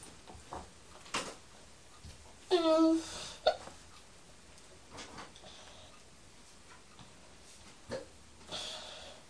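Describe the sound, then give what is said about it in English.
A sharp, voiced hiccup jolts out clearly, followed moments later by a smaller catch of breath, with faint shuffling and soft noises around it. “Have I got any tablets? Not for hiccups.”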